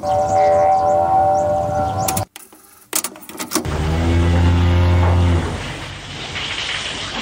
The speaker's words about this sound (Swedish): Ja, det där var muandet från en gammal kossa.